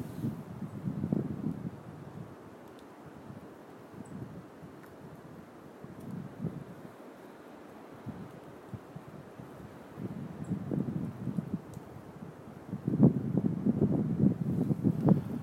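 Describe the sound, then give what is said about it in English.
Scattered light pattering of squirrel feeding debris, bits of pine cone, dropping from pine trees, like sparse raindrops, under steady wind rumble, with a denser cluster of ticks near the end. No one speaks. “And what, I'm not sure if you can hear, it's very faint, but you can, if you can really kind of hone in, you can hear the sound of their feeding falling from the trees.”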